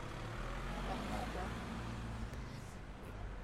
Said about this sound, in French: Mon son préféré, c'est le son du camion qui passe.